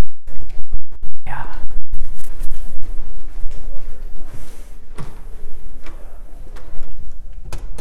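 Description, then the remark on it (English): A door is closed amid a cluster of sharp knocks and clicks, with soft footsteps and faint murmuring voices afterward. “I'm going to close that door because I can't focus.”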